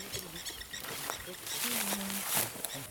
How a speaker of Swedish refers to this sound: Nu sitter jag här och klappar en lejonhane på ryggen. Han ligger här och andas verkligen. Jag känner liksom hur lungorna hävs under min hand här.